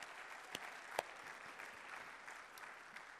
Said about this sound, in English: But Jesus, come on, give a clap offering of praise to the Lord.